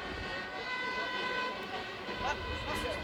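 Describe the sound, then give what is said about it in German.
A fire engine siren from a fire engine unit of the Vienna professional fire brigade (Berufsfeuerwehr Wien) blares loudly and continuously, a steady, bright, harmonically rich tone held throughout with a low rumble underneath. “Das ist bei uns klassisch für die Feuerwehr.”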